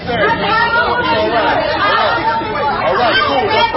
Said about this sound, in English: At a Trader Joe's on the Upper West Side of Manhattan yesterday, the crowds were huge.